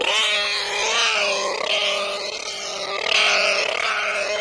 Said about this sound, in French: mais qui achète ça pour écouter ça? 72 minutes de bruit de cochon.